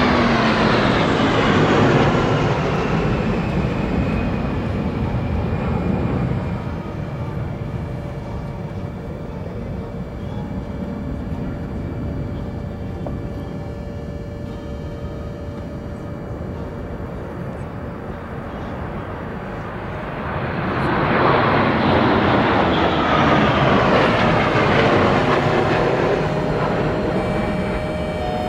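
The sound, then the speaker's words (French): Loud roar of military aircraft sweeping overhead during a military air parade, swelling and fading in one pass, then a second powerful flyover surging in near the end, with a steady rumble between. “Organiser ce défilé aérien, ça demande une précision chirurgicale.”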